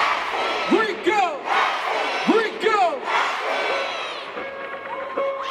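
A dense crowd in a concert pit roars and screams together as the lights go dark, with loud rhythmic shouted call-and-response chants rising out of the noise every second or so, energetic, the pit bouncing.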